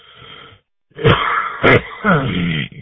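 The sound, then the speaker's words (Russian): A raspy, phlegmy smoker's cough from a speaker who smokes, talking over amateur radio from Vladivostok: a short throaty burst, a pause, then several harsh, loud hacks with rough wheezy breathing between them. “Я прошу прощения, курю, поэтому кашляю.”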